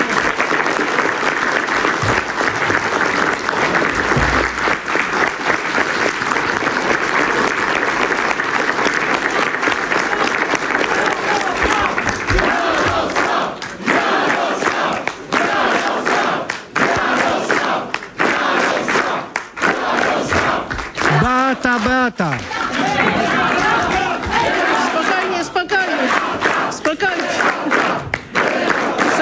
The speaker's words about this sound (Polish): I to właśnie panu premierowi dzisiaj należą się, moim zdaniem, największe brawa i największe podziękowania.